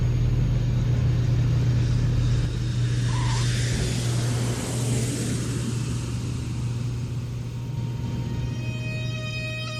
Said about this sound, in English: And the plane is landing.